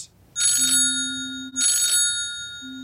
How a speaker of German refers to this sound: Das Handy klingelt.